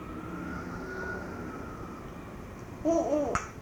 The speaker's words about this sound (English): Do you hear the siren?